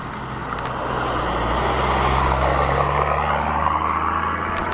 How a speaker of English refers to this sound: I'm sure that was the truck that went down with the roo lights on.